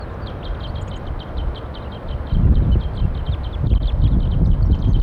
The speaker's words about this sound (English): All wild birds. 4-3. They want to go. Wild birds and 4-3 responds. Trying to call them off and fly off.